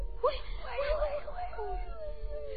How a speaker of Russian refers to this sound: Слушай, что это? Ветер воет. Никак нет, ваше величество. Это волки.